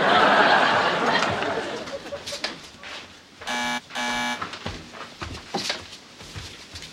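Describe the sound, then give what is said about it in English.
A doorbell buzzes twice in quick succession after midnight, two harsh, steady electric buzzes with a short gap between them, surrounded by faint murmuring and soft laughter. “Honey, burglars don't ring the bell.”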